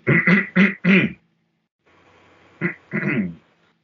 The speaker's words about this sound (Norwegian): Det noen som står og kremter bak da. Så snur du da, og så ser du en fyr med fem hoder.